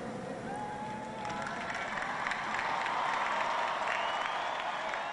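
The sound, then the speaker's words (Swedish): A huge crowd of about 200,000 young people at Randwick racecourse applauds to welcome the Pope on a Saturday evening, a dense, continuous wash of clapping that swells louder partway through, with faint cheering mixed in and no clear voices above it. “I den enorma hippodromen Randwick trängdes på lördagskvällen 200 000 ungdomar från hela världen, och bland applåder, körer och flaggor i alla färger välkomnades påven tillsammans med 12 pilgrimer på den röda scenen”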